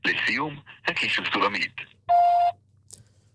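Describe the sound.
A voice speaks briefly, then a single steady answering-machine beep sounds, loud and clear for about half a second, followed by quiet with faint background noise; the message line of the show The Biggest School in the World.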